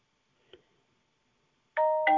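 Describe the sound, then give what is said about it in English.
A mobile phone starts ringing with two loud, bell-like chime tones in quick succession that ring on and overlap, preceded by a single faint click in otherwise quiet surroundings. “Let me silence my phone.”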